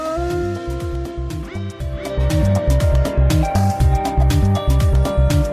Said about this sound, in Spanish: Soy enemigo del pastor, pues con sigilo le engaño y me llevo de su rebaño una oveja, la mejor. ¿Quién soy? El lobo.